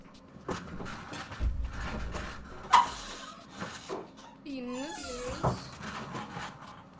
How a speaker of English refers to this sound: I just made my cat hit his head. That's good. On a metal chair.